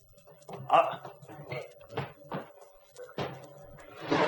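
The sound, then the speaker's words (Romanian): A door thuds shut and a bolt clunks into place as it is bolted behind the people who went in, a few sharp wooden knocks and rattles, with voices murmuring underneath. “Iaca, au zăvorât și ușa după noi.”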